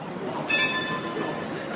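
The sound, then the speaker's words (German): A tram in Zurich, Switzerland, travelling from Kalkbreite to Zürich-Altstetten, rolls along with a steady rumble, and at about half a second a high metallic squeal of wheels on the rails cuts in and rings on faintly. No one speaks. “Nur 5 Stationen mit dem Tram sind es von der Kalkbreite nach Zürich-Altstetten zum Siemens-Areal.”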